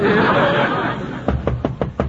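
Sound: knocking on a door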